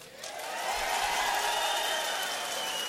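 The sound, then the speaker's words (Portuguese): A crowd in a legislative chamber applauds steadily, dense overlapping claps at an even, sustained level for a few seconds, with no voice rising above it. “Depois de eu falar, você pode vai eu aplaudir, mas deixa eu falar.”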